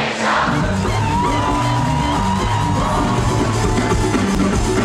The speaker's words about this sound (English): The Arabic lyrics date from the Middle Ages. And this crowd knew every word.